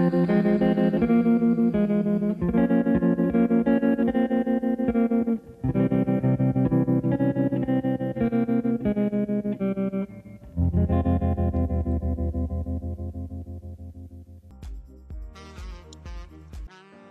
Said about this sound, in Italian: E abbiamo ascoltato ora questa canzone di Kill Bill volume 1